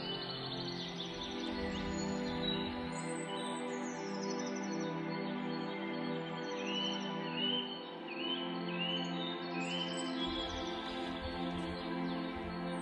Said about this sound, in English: Hear a stream running gently and the song of the birds.